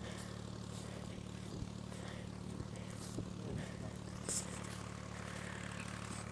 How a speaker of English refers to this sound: Coming over a hill. Wonder what kind of tractor it is. Oh, there it is. Yellow tractor with the farmer. He's tractoring, yes.